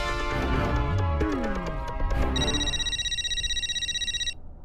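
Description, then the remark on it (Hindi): A telephone rings with a bright, steady electronic tone for about two seconds, following a burst of busy clattering sound, then cuts off abruptly; it is a call from Mehta Sahab. No one speaks. “पंडित जी मेहता साहब का फोन ले लो।”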